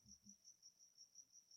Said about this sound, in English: I didn't invite it in my house. It just came into the house. People were saying they thought the cricket was in their house because that's how loud it is. I mean, I don't mind the sound of a cricket, if I'm going to be honest.